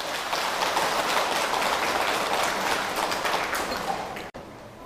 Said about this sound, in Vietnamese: Thì với 2 điều vừa trình bày, nếu các quý Phật tử thấy phù hợp với Đạo Phật và mình cam kết để làm việc đó, thì hãy dâng cho một tràng vỗ tay thật lớn.